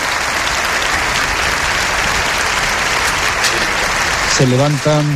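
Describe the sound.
Sustained, dense applause from a large crowd of deputies and guests in the parliament chamber fills the hall steadily, rising into a standing ovation for Ukrainian president Zelensky after his speech, with a voice briefly cutting in near the end.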